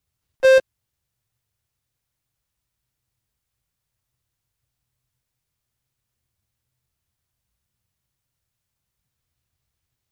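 A single short electronic tone sounds once near the start, clear and steady with a harmonic buzz, followed by about nine seconds of silence. The tone signals to start rewinding a cassette recording in the oral part of the AP French Language and Culture exam.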